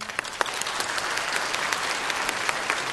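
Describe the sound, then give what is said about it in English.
An audience, polled on which of several claims is fiction, claps enthusiastically, a dense, steady wash of many hands that holds at an even loudness for about three seconds, with no one speaking. “Very enthusiastic.”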